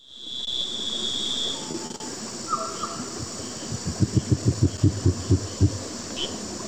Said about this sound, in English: And they guess they sound like the southern cassowary, which is a bird native to Africa. And so, of course, I had to go then find the sound of one. Here it is.